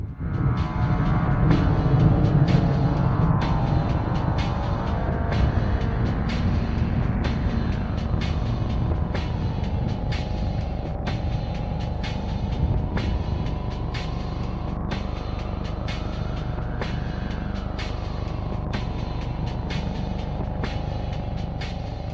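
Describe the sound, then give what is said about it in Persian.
Rigi's convoy of two SUVs and two motorbikes drives toward the Chaman border area between Pakistan and Afghanistan with a steady engine rumble. Engine pitch rises and falls as they accelerate, over a regular clicking tick and continuous road noise, with no talking. “The man in charge of following and surveilling Rigi's team informs the intelligence headquarters that Rigi's convoy that included two SUVs and two motorbikes was approaching the Chaman border area that separates Pakistan from Afghanistan.”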